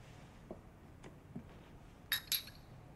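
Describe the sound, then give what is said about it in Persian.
Two bright glass clinks ring out close together near the end as comrades raise and touch their glasses in a toast before drinking. They are preceded by a few faint taps against a quiet hum. “همرزم ما بیاین با هم لیوانمونو بلند کنیم. بیاین بیاین بنوشیم.”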